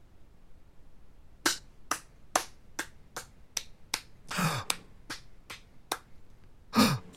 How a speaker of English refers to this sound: Is that you clapping?